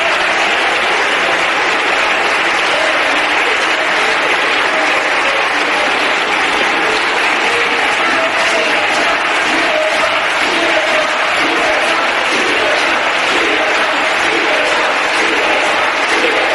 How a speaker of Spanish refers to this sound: daban golpes con las manos en la barandilla del hemiciclo. Mientras trataban de callarlos con aplausos